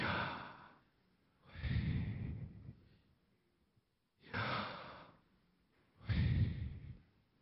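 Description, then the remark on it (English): Several people breathe in and out together in slow, audible unison, four long breathy swells with quiet pauses between, fairly loud, with no talking, as a way of breathing God's name, which cannot be pronounced. “It's actually breathing God's name.”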